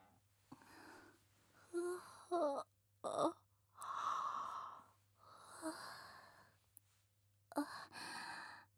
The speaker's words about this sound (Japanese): ごめんなさい、ゆっくりできると思ったらあくびが。